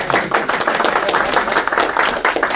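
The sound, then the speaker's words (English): An audience at a talk in an office claps steadily, a dense run of overlapping hand claps at moderate loudness with no talking over it. “Well, we'll be clap now.”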